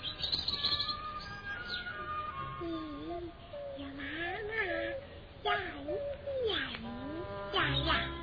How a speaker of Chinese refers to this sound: 那是小鸟，小鸟不是鸟鸟，来跟妈妈说一次，小鸟，